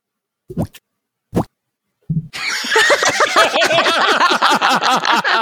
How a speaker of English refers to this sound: Diffuser now for cheese pizza. Just let it drip. Just hold a slice over it. And, hold on, let me see if I can get the sound.